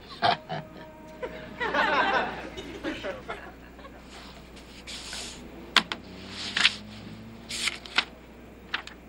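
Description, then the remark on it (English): Scratchy rustling of pen strokes as a suggestion is written on a piece of paper, coming in short irregular bursts with a busier stretch early on, faint background murmur underneath. “Why don't you give this back to me when you're done writing?”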